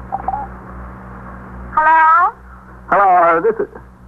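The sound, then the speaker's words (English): A telephone rings twice, two buzzy, warbling bursts separated by a brief pause, sounding thin and filtered as if heard through a receiver, over a low steady hum. “They're ringing.”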